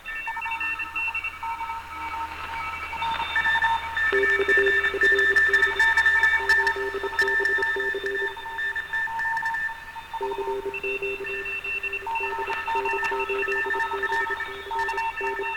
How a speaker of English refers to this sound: And it sounds freaking fantastic. Especially when you start adding things. Like, listen to what happens once we start adding reverb.